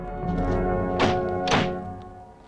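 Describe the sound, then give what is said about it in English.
The two heavy rear doors of a hearse slam shut in quick succession after a coffin is slid inside, a solid thunk followed half a second later by another, both loud over a steady humming tonal background. “They slide the coffin into the rear of the hearse.”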